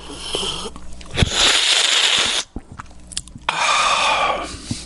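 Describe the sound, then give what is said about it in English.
Two long, airy slurps of someone sucking in air while taking a sip of olive oil from a teaspoon, fairly loud, separated by a short pause with small mouth clicks and a faint sniff. “Suck the air, take a sip of oil on a teaspoon, he said.”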